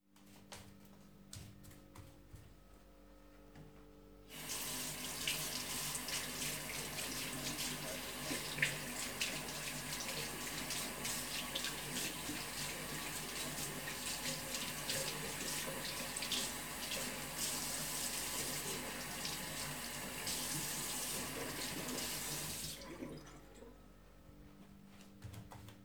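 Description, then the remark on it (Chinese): A tap runs steadily into a sink for about eighteen seconds while someone washes their face, an even rush of water with slight splashing, starting and stopping abruptly. No one speaks. “快去洗干净你的狗脸。”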